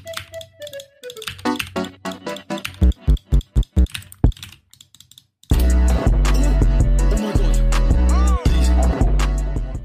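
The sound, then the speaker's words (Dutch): A falling tone gives way to a run of sharp, evenly spaced taps of key combinations on a computer keyboard, then a loud, dense electronic backing kicks in while rapid key clicks continue over it. “En dan je hoort zo, tic, tic, tic, tic, je hoort zo allemaal toetscombinaties op een toetsenbord doen.”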